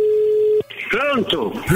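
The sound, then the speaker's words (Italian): A steady electronic telephone tone hums for about half a second, then cuts off and a voice answers over a slightly thin, phone-like line. “Vabbè, sentiamo se qua avremo maggior comprensione, soprattutto se risponderanno ai telefoni.”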